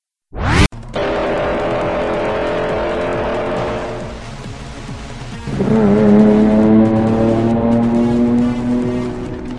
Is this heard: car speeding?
yes